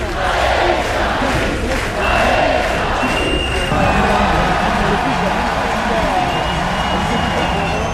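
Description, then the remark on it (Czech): A packed French crowd at an Olympic judo match at the Champ de Mars roars and cheers without pause, a dense, loud wall of voices with rising swells and scattered shouts across the whole stretch. “Mimochodem, tady je malá ukázka, jak Francouzi při judu na Champ de Mars fandí.”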